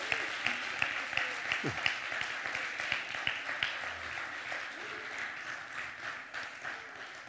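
An audience gives the Lord a hand clap of praise after a prayer, with dense, overlapping hand claps that hold steady and fairly loud for several seconds. Faint voices can be heard beneath the clapping.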